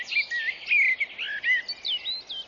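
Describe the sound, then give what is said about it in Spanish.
Blackbirds sing from the high treetops in fluid, warbling phrases of rising and falling whistles, the melodies overlapping without pause at moderate volume, with no voices present. “Los mirlos cantan desde las altas copas de los árboles.”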